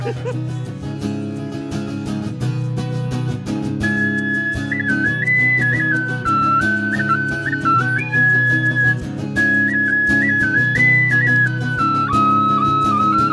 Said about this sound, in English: Whistle solos always symbolize sex. So, this is... doing it is happening. Notice how short it is. That joke works better after it ends. because right now it sounds like he's still going. He's just dragging it out now.